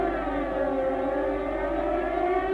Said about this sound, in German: Und dann, am 4. September 1939, drei Tage nach Beginn des deutschen Überfalls auf Polen, gab es tatsächlich einen Fliegeralarm in Bremen.